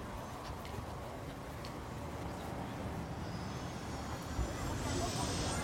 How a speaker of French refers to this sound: Alors, je vais vous mettre aussi un casque sur la tête. L'hélicoptère, c'est assez bruyant.